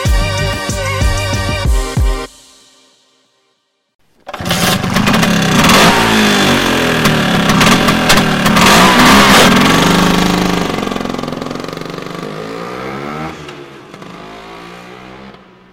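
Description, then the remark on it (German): A short musical snippet, a brief silence, then the engine of a Vespa, a small motorized Italian scooter, roars to life and revs loudly for about ten seconds, its pitch sweeping up and down before settling lower. “David Hofmann hegt eine große Leidenschaft für kleine motorisierte italienische Flitzer, Vespas.”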